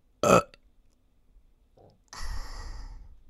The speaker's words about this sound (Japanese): だんだん大好きになっちゃう、ゲップ好きになっちゃう。